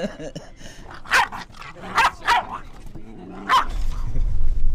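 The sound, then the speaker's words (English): A dog barks sharply four times in uneven bursts at a door, with a low growl and muffled rumbling in between, and faint voices in the background. “We need to get me some dog biscuits or something.”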